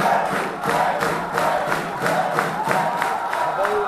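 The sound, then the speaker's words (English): A large crowd at a political rally in Tel Aviv, Israel, cheers loudly and continuously as a former army chief running for prime minister enters, with steady rhythmic pulses like unified chanting or clapping running through the roar for the whole stretch. “Former Army Chief Benny Gantz enters his rally in Tel Aviv to cheers from the crowd.”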